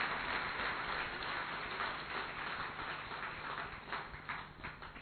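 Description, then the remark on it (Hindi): An audience, urged by the speaker to clap properly, claps together in a dense, continuous burst of applause with no voices, holding steady for several seconds before easing off slightly toward the end. “भाई अच्छी तरह से ताली बजाओ ना जरा, अच्छी तरह से बजाओ ना जरा।”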